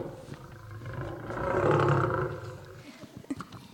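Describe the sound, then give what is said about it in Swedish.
A deep, rumbling roar of hungry lions in a lions' den swells to a peak and then fades, followed by a few shorter grunting growls near the end, with no talking. “Lejonen röt och var så hungriga.”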